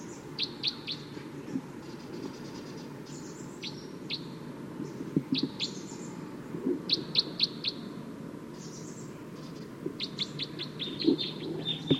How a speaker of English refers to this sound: Wild bird's approaching a little bit closer now. Stop. So recording wild bird's calling loud now, as well as the decoys. Stop. It's recording wild bird pretty loud now.